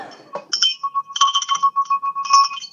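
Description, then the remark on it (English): A small bell rings, shaken in a quick run of bright metallic strikes with a sustained ringing tone, loud and alone with no talking. “You want to hear me ring a bell?”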